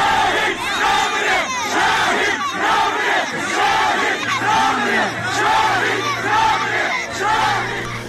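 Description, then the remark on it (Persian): A large crowd at the funeral procession of Taher Ahmadi in Piranshahr chants the slogan "the martyr does not die" in unison, loud rhythmic shouted phrases repeating roughly every second, with a low steady hum running underneath. “و یا در مراسم تشییع پیکر طاهر احمدی در پیرانشهر که همسرش با بهترین لباسی که داشته رفته بالای خودرو ایستاده و همراه با پسرش و مردم داره فریاد میزنه شهید نمیمیره.”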